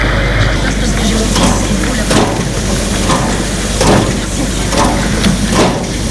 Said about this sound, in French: Vient tout juste d'entrer en gare. C'est un vieux train à vapeur. Le train s'arrête.